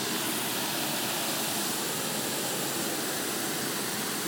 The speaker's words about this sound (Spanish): Y tienen esas pequeñas presas, con unas pequeñas compuertas, que hacen que el agua rompa y caiga.